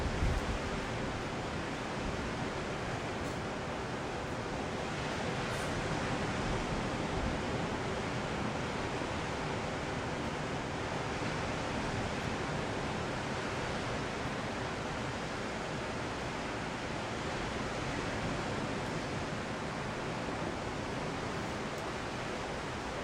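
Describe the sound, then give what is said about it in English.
A steady, unbroken roar of ocean surf at sunrise, dense and hissing, holds an even loudness throughout with no distinct wave breaks standing out and no voices. “So interesting, out in the ocean, you know, there's lots going on out there.”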